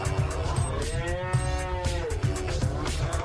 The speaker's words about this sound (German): Das waren echt Lübarser Kühe eben. Man hat es, glaube ich, ganz genau am Dialekt rausgehört.